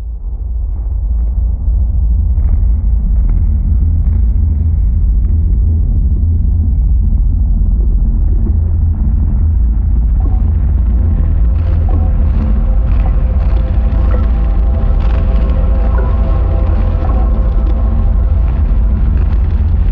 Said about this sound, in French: J'aime bien cette idée de... je ne sais pas comment expliquer, mais c'est texture très sourde, très particulière. Effectivement, ça refait un son qui est original, vraiment original, à partir des sons de l'arbre.